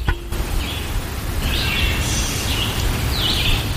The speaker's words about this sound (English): But I think you can also hear a lot of birds are out this morning.